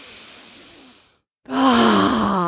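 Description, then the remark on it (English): An airy inhale in through the nose lasting about a second, a short pause, then a loud voiced exhale that comes out as a long sighing groan. “Deep breaths, three deep breaths. We're going to flush the system. Breathing in through the nose, letting it out.”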